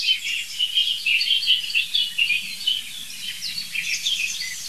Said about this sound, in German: Das ist eine wirklich leitende Singdrossel, würde ich sagen. Und auf jeden Fall jetzt eine sich aufregende Amsel, die wirklich empört ist, muss ich sagen.